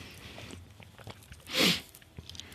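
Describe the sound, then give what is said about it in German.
Someone drinks a cola-and-orange soft drink (Spezi): small wet mouth clicks, then one louder gulping swallow in the middle, with faint clicks trailing after. No talking. “Bin schon am Trinken.”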